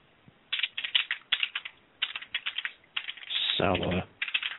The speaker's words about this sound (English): You're talking and I'm typing, yeah.